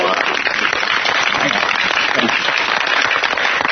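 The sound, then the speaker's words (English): Loud, dense applause from a large crowd of women on a TV talk show as Larry Sanders is introduced, a steady wash of many hands clapping at once with no pauses, sustained evenly for a few seconds. “I haven't heard this many women applaud since my bris.”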